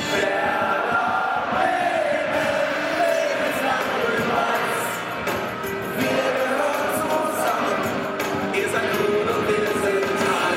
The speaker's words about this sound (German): Ultras sitzen nicht. Sie stehen. Sie sind bereit, alles für ihren Verein zu geben. Sie singen und klatschen, fluchen und schwenken Fahnen. Es ist so eng, dass man den Atem des Nachbarn spürt.